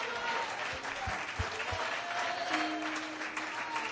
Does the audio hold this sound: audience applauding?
yes